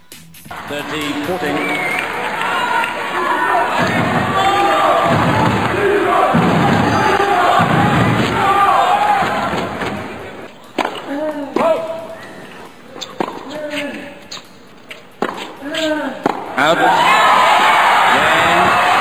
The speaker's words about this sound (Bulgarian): Ето в 30 секунди атмосферата в края на матча на Димитров, викове Григор, Григор, огласяха корта по време на двубоя, а такава бе и еуфорията след срещата.